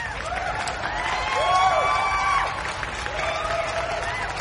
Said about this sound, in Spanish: Un fuerte aplauso para Fincher.